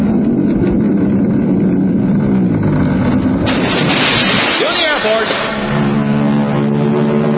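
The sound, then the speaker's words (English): A radio sound effect of a 700-foot whipped cream mountain rolling into Lake Michigan, drained and filled with hot chocolate: a heavy, continuous rumble, then a loud roaring splash surges in midway, with whooshing, sloshing and a brief whistle, loud throughout. “I want the 700-foot mountain of whipped cream to roll into Lake Michigan, which has been drained and filled with hot chocolate.”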